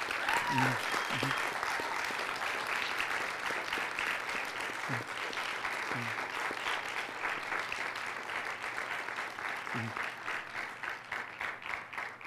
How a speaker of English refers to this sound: So can I have a round of applause for the recipients of these awards?